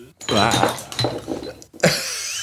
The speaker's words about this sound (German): Nee, ich habe zum Glück nur die leere Flasche umgeworfen.